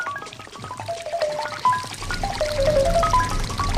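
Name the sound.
bacon frying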